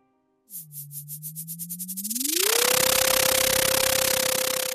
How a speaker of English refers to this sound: Let's listen to some data from an echo sounder on the same buoy in the North Pacific Ocean and see if we can hear the daily movement of zooplankton in the ocean. In our data sonification, this is what zooplankton swimming upward sounds like.